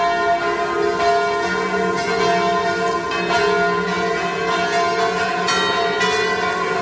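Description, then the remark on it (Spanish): Church bells ring out continuously during memorial ceremonies at the Crans-Montana ski resort, in a dense, overlapping peal, their rich metallic tones sustained and steady at a strong level with no talking. “Es el sonido de las campanas durante los actos de hoy en la estación de esquí, actos de homenaje.”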